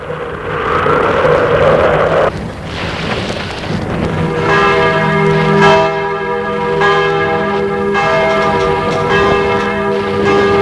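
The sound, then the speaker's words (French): A woman presses a doorbell, which rings out in a long, sustained, loud metallic peal that starts a few seconds in and continues to the end, following a stretch of rumbling, rain-like noise. “Elle appuie sur la sonnette et se dit, il ne m'a même pas embrassé.”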